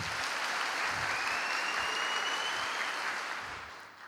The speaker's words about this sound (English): So this is your applause.